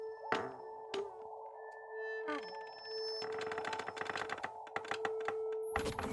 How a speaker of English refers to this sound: After every episode of Omnibus comes out, it says how many times your chair squeaked. Oh man, you're breaking the account right now. Usually, I don't have to work that hard, but. I can't even tell if that's one long squeak or 30 short ones.